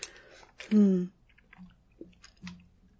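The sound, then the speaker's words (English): A sip of water: a short slurping gulp followed by a few soft, wet mouth clicks and a quiet swallow, with no one speaking. “A little sip of water there.”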